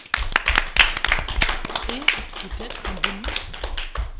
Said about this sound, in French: Mais t'as eu des applaudissements et ça c'est beau.